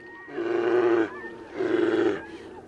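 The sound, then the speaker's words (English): Grizzly bears roar in two long, loud, growling bursts with a short pause between them, harsh and throaty, as they fight over wild salmon in Denali National Park, Alaska, recorded on location in the wilderness. “He hosts a radio show from the Alaskan wilderness, where his guests are wolves, moose, and grizzlies fighting over wild salmon.”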